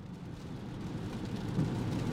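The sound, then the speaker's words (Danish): An electric car with 168 horsepower pulls away after the start button is pressed, with no engine roar, just a low, steady rumble of motor and road noise that builds slightly louder over a couple of seconds. “Nu skal vi høre, hvordan det lyder, når jeg trykker på startknappen, og vi kører derudad.”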